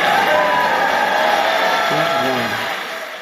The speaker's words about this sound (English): So there you go. The applause is right there.